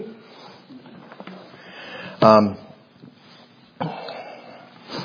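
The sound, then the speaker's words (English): A short, muffled burst like a suppressed cough near the middle, with sniffing sounds around it, from a speaker with a lingering cough who is trying not to cough, against quiet room noise. “Still have some of the cough lingering, so I apologize for strange noises you may hear as I try not to cough.”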